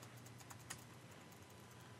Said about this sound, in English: Are you trying it, Todd? I hear you typing.